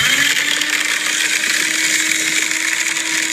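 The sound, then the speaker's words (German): A motorized machine whirs steadily, a paper shredder running with a constant hum and bright grinding hiss that holds even throughout, no voices present. “Es ist ein Papierzerhäcksler. Ich habe mir einen, wie heißt das? Einen Aktenvernichter gekauft.”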